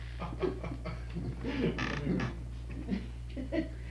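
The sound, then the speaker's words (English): A door creaks open slowly over a few seconds, its hinge groaning in uneven, stretched squeaks against a steady low hum in the room. “Open that door and it makes it feel.”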